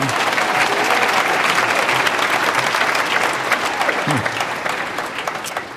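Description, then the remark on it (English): A crowd applauds steadily, a dense wash of many hands clapping at a loud, even level that tapers off slightly toward the end, with a brief voice surfacing underneath. The audience at Climate One at the Commonwealth Club claps as an early birthday for Yvon Chouinard, who is turning 78. “There's nothing to clap about being 78.”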